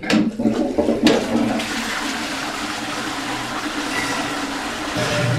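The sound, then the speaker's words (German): A toilet flushes with one short press, opening with a sharp click and a loud rush of water that settles into a steady, roaring gush down into the sewer for several seconds, with no voices. “Einmal kurz drücken.”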